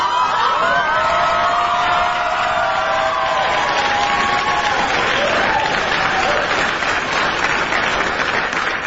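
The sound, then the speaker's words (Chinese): A large audience applauds loudly and steadily for the full stretch, a dense wash of clapping with faint tonal sounds drifting through it early on. “哎呀，这掌声就相当于是我们大家都送上的了哈。”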